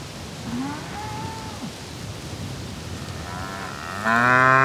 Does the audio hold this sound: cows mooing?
yes